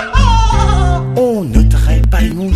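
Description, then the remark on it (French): A person imitates cows, making three or four loud, drawn-out, wavering bleat-like calls in quick succession, each sliding downward in pitch. “Me me me font les vaches font me me.”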